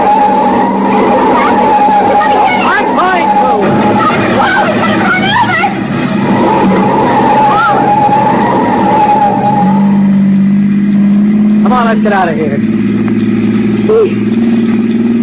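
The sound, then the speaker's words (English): A car brakes hard with a long, loud tire skid, followed by an engine revving up, with voices faintly mixed underneath the continuous noise. “I'm going to pull him one side, slam on the brakes, and see what happens.”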